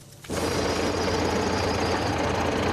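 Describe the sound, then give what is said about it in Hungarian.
A loud tractor engine kicks in after a brief quiet moment and runs steadily, a rough, knocking diesel rumble that stays constant throughout, with no voices, at a farmers' protest with tractors, trucks and live animals outside the European Commission representation building in Bratislava, Slovakia. “Traktorokkal, teherautókkal és élő állatokkal demonstráltak a gazdák a szlovák fővárosban.”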